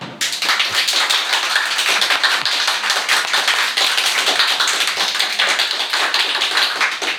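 Sustained applause from a studio audience for a guest, a dense, steady wash of many hands clapping at a fairly loud, even level for several seconds with no voices over it.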